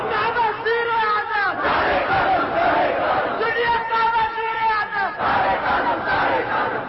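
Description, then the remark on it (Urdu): A large crowd chants slogans in loud unison, shouted phrases rising and falling in repeated waves that carry on without a break for the whole stretch, full and dense. “لو نعرے بادشاہ نہ خوب ہے, مقابلہ کر رہے ہو نعروں.”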